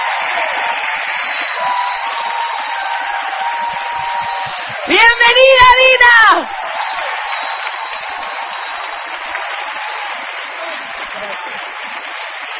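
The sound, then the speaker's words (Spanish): A standing audience applauds steadily to welcome a woman speaker, a dense, even wash of clapping. Midway, a voice loudly shouts a welcome over it for about a second before the clapping carries on. “Muy bien, vamos a recibir, yo diría puestas de pie con un fuerte aplauso,”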